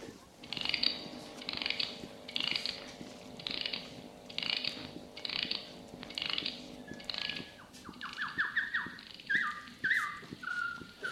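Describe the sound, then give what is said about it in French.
The clockwork mechanism of a stuffed automaton bird in a cage winds with a steady series of ratcheting clicks, about one every half second, then breaks into thin, fast mechanical chirps like a bird singing, fairly quiet. “Faites plutôt chanter l'oiseau dans sa cage. Il dira le nom à sa façon, dans son langage d'oiseau empaillé.”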